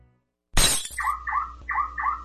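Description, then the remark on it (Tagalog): A sharp, loud smash of car window glass breaking as a car is being broken into and robbed, followed immediately by a car alarm sounding in repeated two-tone electronic wails, four in a steady rhythm. No one speaks. “ninanakawan yung kotse ng brad mo, oh.”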